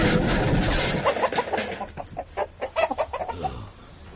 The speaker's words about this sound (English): Foiled by a flock of renegade chickens. We can't arrest the chickens, Sarge? Of course we can't.